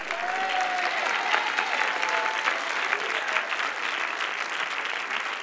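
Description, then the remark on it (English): An audience claps steadily and loudly for several seconds, a dense, even wash of applause with a faint whistle or cheer rising briefly near the start. “Yeah, clap louder.”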